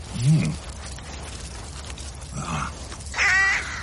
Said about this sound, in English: Raven.